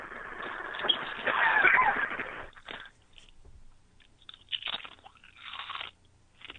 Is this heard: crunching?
yes